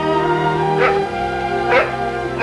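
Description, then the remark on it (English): Small bulldog puppies being lifted from a basket whimper and let out a few high yaps, with thin whining cries rising and falling and short sharp yelps at irregular intervals, no talking. “Across the lawn, Jane and Charlotte lift tiny bulldog puppies from a basket. Please don't cry.”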